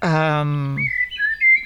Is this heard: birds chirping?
yes